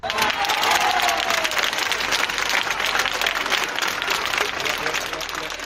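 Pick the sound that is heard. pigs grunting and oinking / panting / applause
applause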